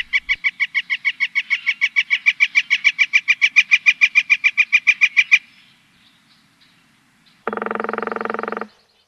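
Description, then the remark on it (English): A northern flicker gives a long, loud, steady series of rapid 'wick-wick-wick' calls for about five seconds, then stops; after a pause comes a brief, dense burst of rapid drumming from a pileated woodpecker. “Okay, here's the flicker, and then the pileated.”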